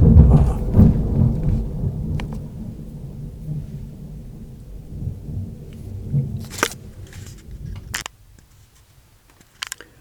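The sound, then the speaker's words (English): A loud, rumbling burst of thunder during a thunderstorm with lightning opens and rolls on for several seconds, fading into low rumble, with a few sharp crackles and clicks before it cuts to near silence. “I had a little interruption with a pretty good burst of thunder and lightning right at this time, but doing fine.”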